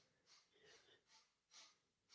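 A man breathes loudly, with several heavy, airy breaths in a steady rhythm, each a hissy rush that swells and fades, some with a slight snort or wheeze.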